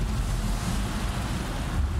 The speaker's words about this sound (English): You can hear it in the roar of the ocean.